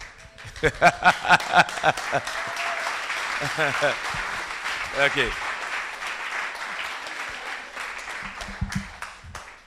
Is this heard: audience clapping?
yes